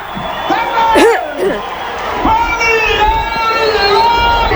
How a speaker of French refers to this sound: Les gradins étaient entièrement remplis, à peine la place de circuler et à 18h pétante, la foule s'est embrasée en voyant entrer les premiers cow-boys.